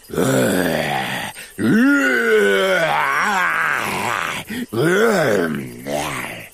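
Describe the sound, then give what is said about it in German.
A voice imitates a lion's mighty roar: three loud, growling bursts with rising and falling pitch, the middle one longest, separated by brief pauses. “Der Löwe stößt ein mächtiges Gebrüll hervor.”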